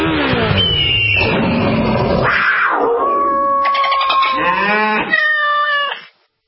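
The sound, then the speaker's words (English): A sound effects guy imitates a motorcycle engine roar for a Progressive motorcycle insurance radio ad, a loud, continuous growl for about six seconds with rising and falling pitch sweeps, like revving, that breaks off abruptly at the end. “A feeling that would be impossible to recreate on the radio. Until now. Hit it, sound effects guy!”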